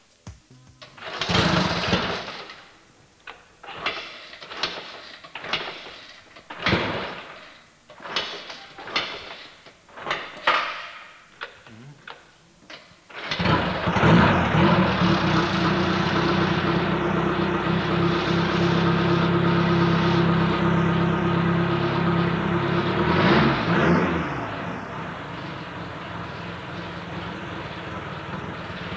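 A tractor engine coughs and sputters in a series of short bursts, then catches and runs with a steady, loud rumble until the end, with no one talking.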